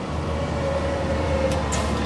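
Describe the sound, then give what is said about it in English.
A loud, steady diesel rumble from a passing bus or semi truck engine, with a low drone and a couple of brief hissing bursts near the end, and no talking. “So who hasn't run from the stinky wake of a noisy bus or semi?”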